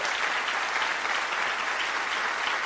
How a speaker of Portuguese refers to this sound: Olha que coragem, aplaude esse povo. Aplaude. Mas aplaude com força.